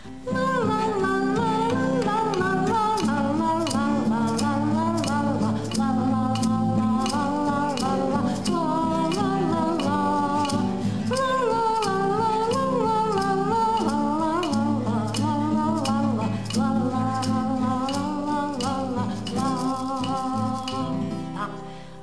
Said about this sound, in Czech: A teď už si vemte ty vaše ťukátka, nebo do čeho budete ťukat, můžete i do nožiček. A budeme, zkusíme k tomu dát ten rytmus, jo?